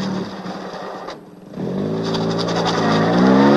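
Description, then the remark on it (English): A car engine rumbles, dips briefly, then revs up hard as the car turns around and speeds off the way it came, its pitch climbing steadily and growing louder by the end; no one speaks. “Turning around, he speeds off the way he came.”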